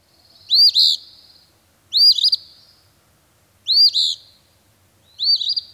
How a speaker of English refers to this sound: One such bird, the phoebe, can be heard at Arcadia in spring and summer.